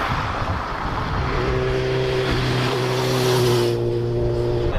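A car engine roars over constant road noise, its hum growing steadier and stronger partway through as it speeds along. Nobody speaks.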